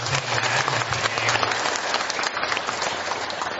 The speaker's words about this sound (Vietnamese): Mình muốn các anh chị có một tràng pháo tay thật là lớn.